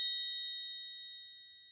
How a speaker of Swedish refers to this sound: Nej, jag tycker vi ringer. Ja, det gör vi. Ja, nu ringer jag. Klockorna bara.